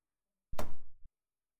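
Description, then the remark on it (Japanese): A front door swings shut with a solid thud, followed a moment later by a short, sharp click like a lock being turned. Nobody speaks. “早く入って。寒いから。あ、鍵閉めといてね。”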